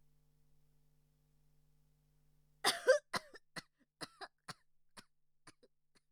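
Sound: prolonged coughing fit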